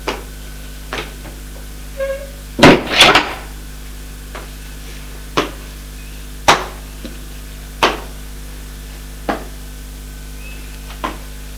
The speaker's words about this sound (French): Ils arrivent à la chambre du professeur qui est au dernier étage. Il a ouvert la porte.